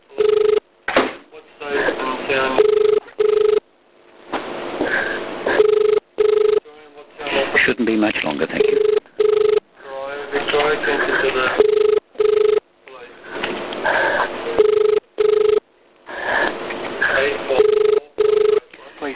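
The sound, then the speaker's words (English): A telephone line rings with a steady, repeating ringback tone in short bursts separated by silences, heard over a narrow phone connection while a voice speaks briefly in between, as an operator tries a new line for an emergency call in Queensland. “That new line is ringing now.”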